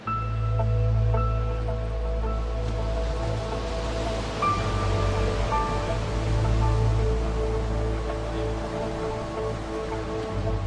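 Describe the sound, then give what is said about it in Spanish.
Caribbean Sea waves wash steadily onto the beaches of Riohacha in a constant, loud roar of surf with no distinct breaks, while a faint sustained tonal hum runs underneath. No voices are heard. “La fuerza del mar Caribe golpeando en las playas de Riohacha”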